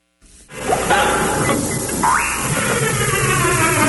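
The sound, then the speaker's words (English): A full half hour of the Stan Freberg Show, from the Pacifica Radio Archives, played backward at high speed: a dense, continuous, garbled chatter of squeaky warbles, with sudden pitch swoops and glides, loud and unbroken from a quick start to the end. “It was a full half hour of the Stan Freberg Show played backward at high speed.”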